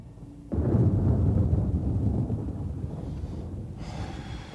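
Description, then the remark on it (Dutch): A deep, loud rumble of thunder from a thunderstorm under a black sky breaks in suddenly and rolls on for several seconds, slowly fading, with a faint hiss of rain or wind carrying into the quieter tail. “Het onweert om precies te zijn. En het onweert goed ook.”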